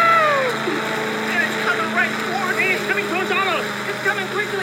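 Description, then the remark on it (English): A lawnmower engine drones steadily at a low pitch throughout, overlaid by a busy scatter of warbling, rising and falling higher tones and vocal-like sounds. “The lawnmower is coming.”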